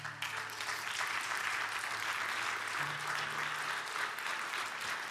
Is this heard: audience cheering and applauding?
yes